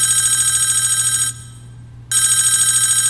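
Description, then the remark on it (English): A telephone rings loudly with a bright, warbling electronic tone, an incoming call from the government: one long ring, a brief silent pause, then the ringing starts again. No voices are heard. “One day, as Litter was sitting around, they received a phone call.”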